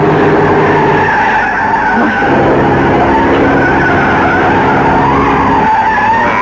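Loud, sustained tire skidding from a fast-moving truck, a continuous screeching squeal layered over a rumbling engine, lasting the whole stretch with no voices.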